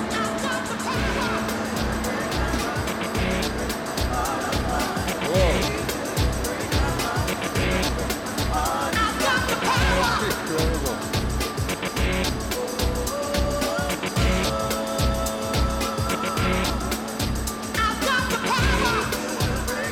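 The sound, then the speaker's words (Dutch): A very old 1936 generator engine, turned back to 50 kilowatts, runs loudly and steadily in a small shed, its deep rumble pulsing in a fast, even chug for the whole stretch, with a metallic clatter on top and voices faintly beneath. “We can show you a very old generator, 1936.”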